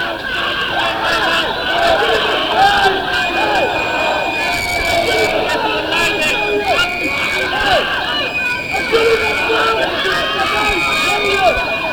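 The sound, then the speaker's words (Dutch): A loud, dense crowd of protesters roars with overlapping shouts and cries, while a thin high tone persists underneath, as police charge in, beating people and carrying someone off under arrest. “Er wordt nu op mensen ingeslagen. Er wordt iemand afgevoerd.”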